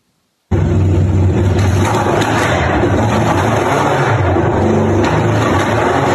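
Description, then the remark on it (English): A deep, throaty race car engine idles and gurgles steadily outside, about 100 feet from a studio, loud and continuous with a rumbling low-end burble and slight revving fluctuations, with no talking. “Throaty. Love that gurgle sound, right?”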